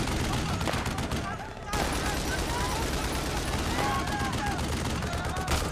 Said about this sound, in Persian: از کجا دارن شلیک میکنن؟ قبل از اینکه صدای شلیکو بشنوی مردم دارن میافتن رو زمین.